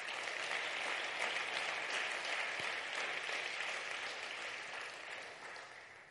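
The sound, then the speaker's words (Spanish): An audience applauds God, called the King, together in a sustained, dense wash of clapping that holds steady for several seconds, then slowly fades toward the end. No voices are heard. “Dar un aplauso al Rey.”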